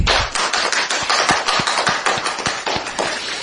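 A crowd claps steadily, a dense wash of overlapping hand claps with sharp individual slaps standing out, sustained at an even loudness throughout with no talking.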